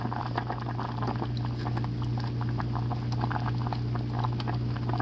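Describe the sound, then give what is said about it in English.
Thick porridge bubbling steadily in a pot, a dense stream of soft pops and blips over a low, constant hum from the stove, with no one speaking. “Let me see, maybe you can hear the bubbling.”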